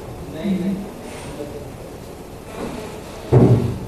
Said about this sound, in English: would you close that front door because of the monkeys? You know, it has to be closed.